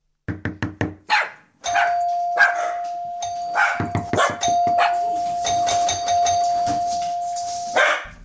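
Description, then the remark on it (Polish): A doorbell at number 15, Rue Docteur Bonhomme rings in one long, steady buzzing tone lasting about six seconds, while a dog barks loudly and repeatedly before and over it. “S'il vous plaît, ne sonnez pas. Vous allez réveiller mysza.”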